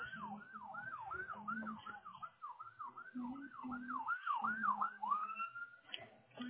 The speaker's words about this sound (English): Sounds like a train. Oh, ambulance.